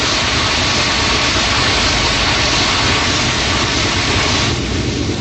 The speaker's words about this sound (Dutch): Klaar, Mitch, om de motor af te zetten? Klaar. Mooi. Af! Af!